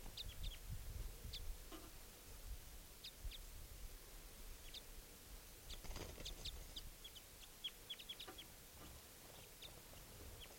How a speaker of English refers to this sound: Let's start recording the wild bird again. Yep. It's recording. I've put the new captive in with 387 momentarily. The other wild bird still up in the trees calling. Wild bird.